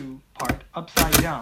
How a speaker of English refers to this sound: Now, if you've never seen a Perkins Brailler, imagine an old typewriter, way louder, that punches little sequences of dots into thick, rough paper. It only has 6 keys on it, one for each of the 6 dots that combine to form Braille letters and numbers.